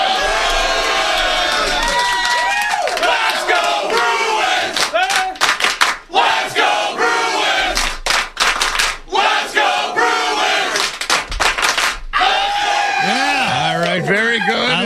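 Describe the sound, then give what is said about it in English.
A crowd chants the sports cheer "Let's Go Bruins" in loud, rhythmic unison, voices rising and falling in repeated bursts with sharp pauses between phrases, energetic and continuous throughout. “Can we hear a Let's Go Bruins before he gets down there?”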